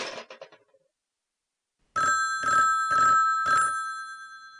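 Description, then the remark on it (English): A brief burst of rattling clicks, a pause, then a telephone bell ringing in four quick, evenly spaced pulses, loud, an unusual rapid ring pattern. It is a party-line ring on Long Island, set off by dialing 660, then 7, and hanging up. “How do you like the fancy ring?”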